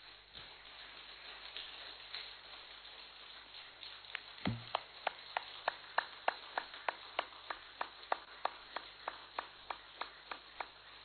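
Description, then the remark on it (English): An audience, asked to clap loudly, gives a few scattered hand claps that settle into a steady, even beat of sharp claps, about two to three per second, growing firmer toward the end, with no voices. “Can you clap for a while?”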